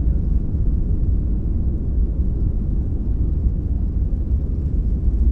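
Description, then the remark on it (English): A steady, heavy low rumble of an airplane's two engines spinning up to full speed, coming close to being in phase and then out of phase, a dense droning roar that holds an even loudness throughout, with a faint pulsing texture and no voices. “when the two engines come close to being in phase and then out of phase, as they're sort of spinning up to full speed.”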